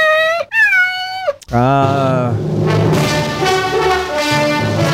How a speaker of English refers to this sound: The little sounds from a kitty cat being sleazy looking for food.